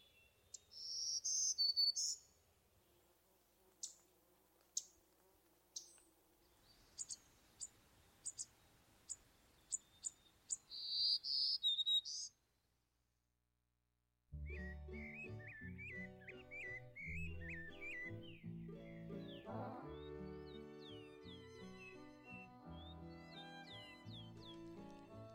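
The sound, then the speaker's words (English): Two short, high, buzzy Black-throated Green Warbler song phrases sound about ten seconds apart, with faint clicks between them, followed by a pause and then instrumental music. “we heard a recording of Black-Throated Green Warbler from Stokes Field Guide to Bird Songs, Eastern Region”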